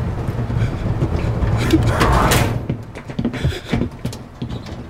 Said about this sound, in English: Close the door.